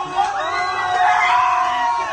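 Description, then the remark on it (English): A crowd of train passengers cheering and screaming together as a man slides down the middle of the train, a dense, sustained roar of excited voices with whoops rising over it, loud throughout. “That clip goes for like 40 seconds of them just cheering and screaming.”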